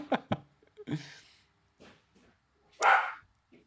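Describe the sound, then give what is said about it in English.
A dog barks in an apartment, two quick sharp barks followed by another, then a pause before one louder, longer bark near the end. No one speaks. “Sorry, the dog.”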